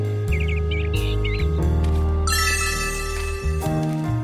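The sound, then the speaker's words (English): A bird sings a few quick, warbling chirps near the start, set over steady, loud music that carries on after the song stops. “She hears a bird.”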